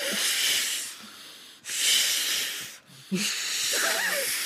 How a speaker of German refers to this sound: Sie haben Luftmatratzen mitgebracht, die sie im Schlafzimmer aufpusten.